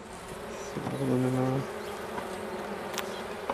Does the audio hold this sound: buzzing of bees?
yes